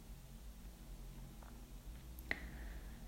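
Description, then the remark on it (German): A soft, steady rush of ocean surf, low and continuous with no clear breaking swells, interrupted once by a brief sharp click near the end. “Spüre, wie entspannt dein Gesicht ist und höre dem Meeresrauschen einen Moment lang zu.”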